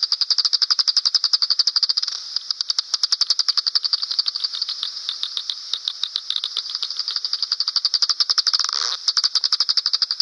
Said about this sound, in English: My farts sound like many different sounds, but that was something plucking. That was a bat plucking something out of the air right in front of me. I think they're going up and down the lane.